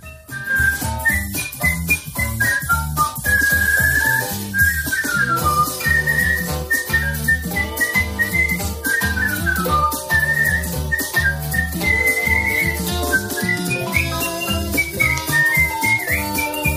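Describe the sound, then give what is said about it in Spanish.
A woman just crowned the best whistler in the world whistles a flowing, clear melody, loud and sustained, over an instrumental backing with steady beats and chords. No one speaks. “Bueno, es una maravilla, desde luego, como silbas.”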